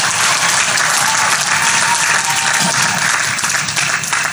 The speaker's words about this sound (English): This is your day as well. Let's give them a big round of applause as well.